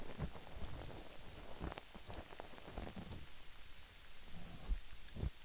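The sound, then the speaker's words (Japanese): Steady rain pattering on a surface, a dense wash of hiss with scattered sharper drops and occasional low thumps, fairly quiet throughout with no voices. “私は水の音が好き。”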